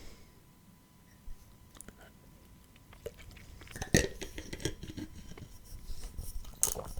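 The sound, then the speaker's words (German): Quiet drinking of sparkling water from a glass: small wet sips and swallows, a couple of sharp clinks of glass, and a faint fizzy crackle in between. No one speaks. “Oh, ey, auf Kohlensäure komme ich so nicht klar.”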